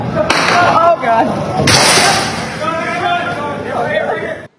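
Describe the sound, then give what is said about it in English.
Two sharp, loud gunshots crack out about a second apart, fired by a gunman at the Gramercy Apartments on West North Street in Raleigh, ringing over a noisy, distorted background of indistinct voices and commotion. “A man accused of firing shots at an apartment building in Raleigh is being evaluated at the hospital.”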